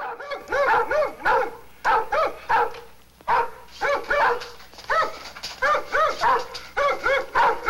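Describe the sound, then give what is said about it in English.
An Alsatian dog running with a soldier in daylight barks loudly, firing off rapid bursts of deep, harsh barks in quick succession, separated by brief pauses, with no voices present. “An image of a Nazi soldier running in daylight with an Alsatian dog.”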